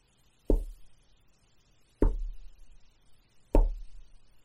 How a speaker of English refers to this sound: And you can knock on that door.